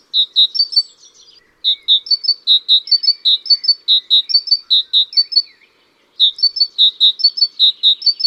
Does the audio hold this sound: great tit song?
yes